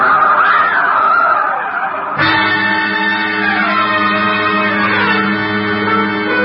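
truck skidding

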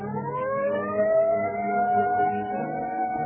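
police car siren

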